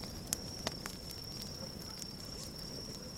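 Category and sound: nature, fire crackling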